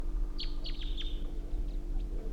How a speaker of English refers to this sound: I can think I see the bird perched tall on a tall spruce tree.